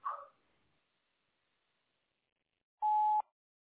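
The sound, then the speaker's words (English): A brief burst of sound at the start, then near-silence, followed by a single steady electronic voicemail beep signalling the start of recording, lasting about half a second, clear, with nothing after it. “Leave it at the beep.”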